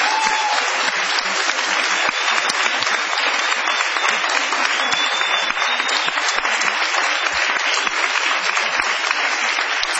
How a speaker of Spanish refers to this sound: Muy amables, mucha gente hoy en el galponcito. Vamos a prolongar la ovación para honrar a Patricio Barton.